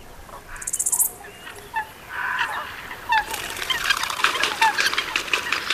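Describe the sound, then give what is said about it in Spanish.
Cranes and ducks calling at dawn at a crane roost: scattered honking and quacking calls at first, then a dense, overlapping chorus of bird voices building and continuing steadily, with no one talking. “Patos y grullas al amanecer.”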